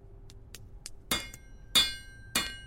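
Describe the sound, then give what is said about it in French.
Three sharp, ringing hammer blows on metal at a slow, uneven pace, forging homemade climbing pitons, each with a bright metallic ring that lingers, preceded by a few light taps; no one speaks. “J'ai décidé de fabriquer mes propres pitons.”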